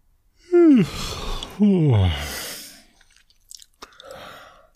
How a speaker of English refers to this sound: What was your scientific experiment? I made a yawn to see if you would yawn.